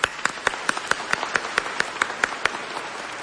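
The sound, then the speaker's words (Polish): An audience at a gathering of backyard rosary circles applauds the priests in steady rhythmic unison, sharp claps landing at an even, brisk beat over a continuous wash of crowd noise, with no talking. “Też dla nich oklaski.”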